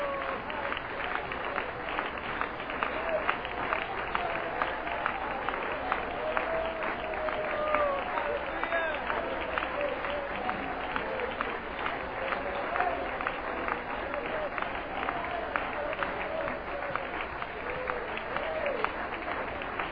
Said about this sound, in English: Hallelujah. Would you clap your hands to the Lord and let's just worship Him for a moment.